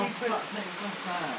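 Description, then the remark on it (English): Steady, heavy rain falls outside in cold weather, a dense continuous hiss with no clear breaks, heard at moderate level with faint voice-like tones murmuring underneath. “That's rain.”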